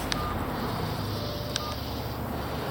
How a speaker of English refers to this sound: Thinking of your two cats at home, and how you would want to know right away if anything happened to them, you dial the number.